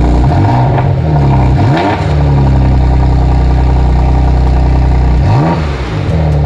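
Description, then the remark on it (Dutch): A grey Porsche Macan's engine revs hard, its deep tone climbing and falling in sweeping rises around two seconds and again near the end, with a steady loud rumble between and no voices. “Ja, dat was dus een Porsche Macan en de kleur was grijs, wist je natuurlijk.”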